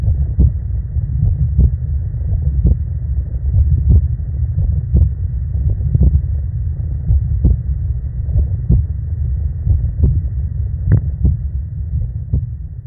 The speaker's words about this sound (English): Pretty normal looking waveform, nothing really interesting looking there, unfortunately. Fortunately. Yeah, I guess fortunately for you, yeah. So just to send us off, here's my unfortunate heartbeat.